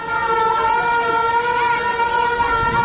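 A loud, sustained general-danger air-raid siren drones steadily at a high pitch, its tone wavering slightly, with faint traffic rumble beneath and no voices, sounded in Herzegovina amid bura wind and cool weather to mark the fall of the Stari most on 9 November 1993.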